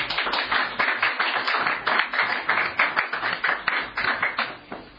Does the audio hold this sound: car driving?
no